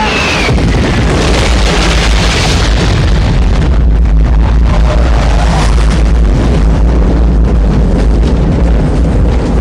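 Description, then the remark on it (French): Thunderous bomb blasts from a jet air strike roar, a dense, continuous rumble of explosions with a sweeping jet whine early on and heavy low-end rolling throughout. “Les jets arrivent. Ils vont larguer d'ici 30 secondes.”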